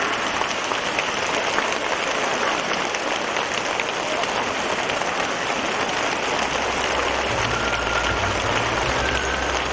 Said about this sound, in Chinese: 现在让我们用最热烈的掌声恭请我们尊敬的卢军宏台长。